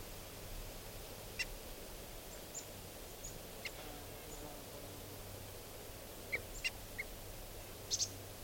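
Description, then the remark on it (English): Short, sharp alarm calls of decoy ducks, reacting to an osprey flying around, ring out a few at a time, isolated at first and then in a quick cluster near the end, over a steady low outdoor rumble. “And the decoys are giving alarm calls.”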